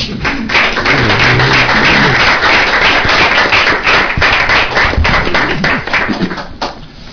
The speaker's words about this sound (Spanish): Entonces yo otra vez, nuevamente, aplauso a los psicólogos.